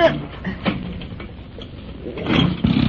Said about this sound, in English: but I thought you were going to do something about starting the engine.